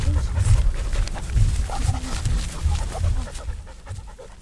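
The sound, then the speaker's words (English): Dogs bark in a string of short, gruff bursts at an uneven pace, loud, with deep panting or growly breaths between them and no talking, during a group dog walk through the De Cordova Sculpture Park and Museum in Lincoln. “Dogs and sculpture, of course.”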